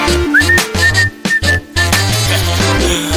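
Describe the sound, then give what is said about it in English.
A whistled melody of short, bright notes plays over a busy musical backing with deep bass and percussion, the whistling fading out partway through. “Now by force, okay, maybe you can whistle, just in case you want to use it.”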